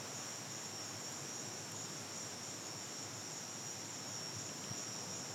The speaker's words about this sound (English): And he was kind enough to go outside his house in Mombasa, Kenya, and he actually made a recording of the cicadas outside that he wanted to share with us.